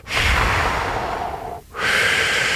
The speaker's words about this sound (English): Because once you start with the exhale, which allows you to then take a deep breath. So that's a good thing to remember. You start with an exhale and then deep and then breathe in.